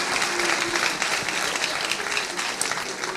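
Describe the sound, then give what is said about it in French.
A crowd applauds James Harden of the Rockets as he stands up at a party, dense overlapping claps forming a continuous loud wash of noise that holds level for the whole stretch without pausing. “On peut applaudir, Bravo.”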